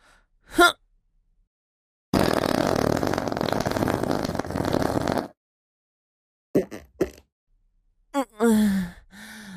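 A long, loud, rumbling fart lasting about three seconds, with short breathy vocal sounds, sighs and grunts, before and after it.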